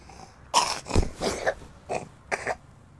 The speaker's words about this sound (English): Are you trying to get sick on me? You and this cough.